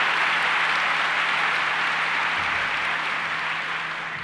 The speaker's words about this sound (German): Ihr dürft nochmal klatschen.